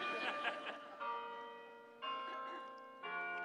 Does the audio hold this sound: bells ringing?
yes